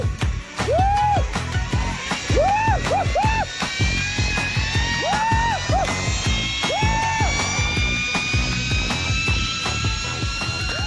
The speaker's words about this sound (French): Écoutez par exemple les cris du journaliste.